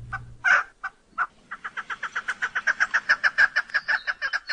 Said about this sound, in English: Well, chances are it's a game bird called a chukar. They have all kinds of calls, and we've got a few for you today.